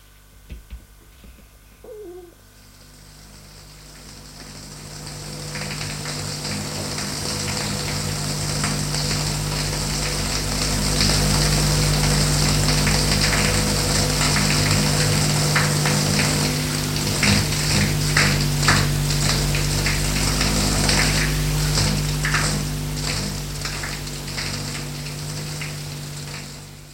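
A shower runs steadily as a woman takes a shower, its dense hiss of spraying water swelling in after a quiet start and holding fairly loud, with no voices.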